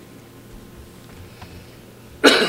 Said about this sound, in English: Excuse me. I can back away from that mic to cough, but I can't back away from this one.